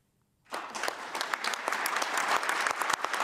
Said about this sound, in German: Mit Applaus feierten die Delegierten in Genf am Vormittag ihren Beschluss.